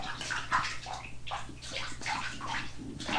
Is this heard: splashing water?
yes